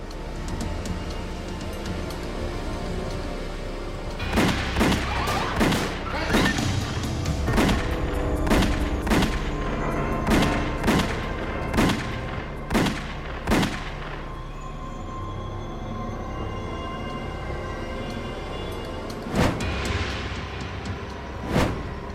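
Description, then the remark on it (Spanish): A rapid volley of about a dozen sharp, loud gunshots rings out over a low rumbling background, followed after a pause by two more isolated shots: assassins shooting Paul Castellano and Tommy Bilotti at a black car stopped at the curb, each hit six times. “Paul Castellano y Tommy Bilotti yacían fuera del auto, cada uno con 6 disparos.”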